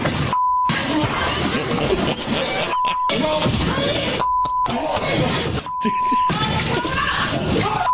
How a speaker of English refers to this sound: The battle behind the bench is intense. You can see lots of punches being thrown. The audio is mostly beeps. It is, yeah. Almost completely.